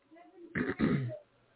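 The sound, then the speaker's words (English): A person clears their throat twice in quick succession, two short raspy bursts, with faint murmuring before and after. “I hear you clearing your throat.”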